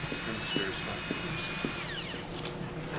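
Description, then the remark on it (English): A surgical cranial drill whirs steadily at a fairly low level for a few seconds during a craniotomy, with a few faint clicks and a short falling pitch sweep. Quiet murmuring voices sit underneath. “Drill, please.”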